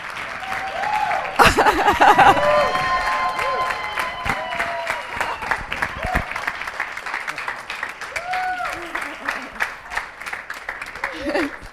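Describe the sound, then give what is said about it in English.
A church audience applauds Jesus steadily, a dense wash of clapping with a few cheers and whoops rising above it, and a loud burst near the start before settling into sustained applause. “We applaud who Jesus is, what Jesus has done.”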